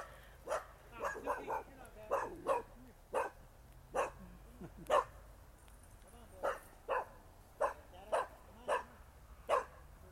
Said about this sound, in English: We have just ran into a crowd of angry pack dogs, but luckily they had owners in. They were able to restrain them before got eaten in the middle of this interview.